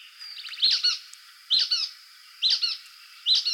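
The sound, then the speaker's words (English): Brown-headed nuthatch calls in Missouri: four quick bursts of high, squeaky chattering notes, evenly spaced about a second apart, with no voices. “Kendrick hopes when the restoration is over, the public will take time to enjoy the restored oak pine woodland and try to catch a glimpse of the brown-headed nuthatch that once again calls Missouri home.”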